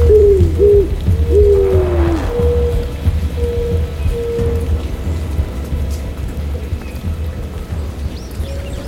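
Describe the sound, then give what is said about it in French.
Steady rain patters continuously over a deep, rolling low rumble, with a few short tonal bird calls near the start before the downpour carries on alone. “Elle parlait si doucement qu'à travers le bruissement de la pluie, ses paroles étaient à peine perceptibles.”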